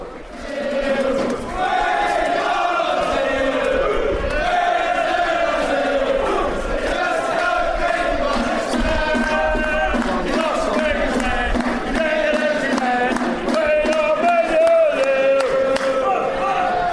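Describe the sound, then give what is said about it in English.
A large crowd of football fans sings and chants together before a big match, about four hours before kick-off. The singing is loud and continuous, with many voices blending into a rising and falling melody that carries on without a break. “Atmosphere building ahead of what's going to be a big, huge game.”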